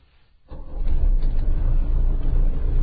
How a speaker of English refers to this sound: I believe I hear the purr of the engine as it begins another day of service. This is one dependable car, I gotta say.